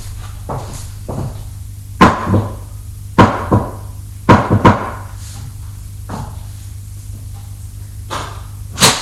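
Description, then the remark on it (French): Sharp, hollow knocks on a neighbour's door on the same landing land in short irregular pairs over a steady low hum, with softer taps in between and a final knock near the end; no one speaks. “Il va frapper à la porte de son voisin.”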